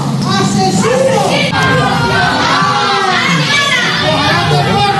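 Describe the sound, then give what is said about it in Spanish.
A crowd of neighbours in the town of Bonesterio, Badajoz province, Spain, shouting angrily "Asesino!" (murderer) at a man who confessed to a killing; many raised voices overlap in a loud, continuous uproar of yells and chanting that never lets up, intense throughout. “Los vecinos le han recibido con estos gritos.”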